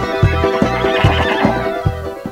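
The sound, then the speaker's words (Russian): A grazing horse neighs in a long, wavering whinny, fairly loud, with a steady rhythm of low thumping pulses beneath it. No one speaks. “Лошадь пасется.”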